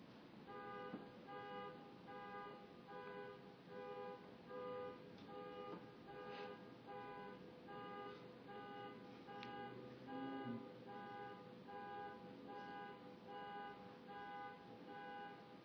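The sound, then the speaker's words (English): A car horn blares in one long, unbroken, buzzy tone that holds steady for about sixteen seconds over a low rumbling background, with no voices. “So when an obvious cessation like a car horn or arises, it's actually good practice to allow the body to recede and then bring your awareness back to sounds”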